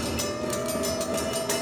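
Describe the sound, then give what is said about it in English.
A train approaches along the railway tracks, rolling loudly, wheels clacking in a steady rhythm beneath a continuous rumble and a faint sustained tonal hum. No voices are present. “He was sitting right there on the railway tracks. And the train was coming.”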